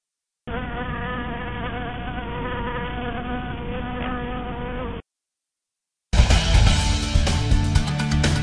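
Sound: bee buzzing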